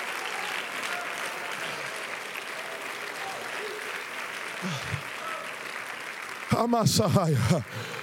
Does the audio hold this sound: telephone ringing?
no